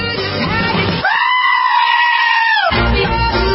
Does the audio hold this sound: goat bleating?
yes